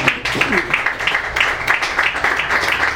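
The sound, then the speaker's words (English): A crowd claps steadily for the full few seconds, a dense, even patter of many hands, with faint voices mixed into the applause near the start. “I think that's definitely worth a clap because I believe in this so strongly.”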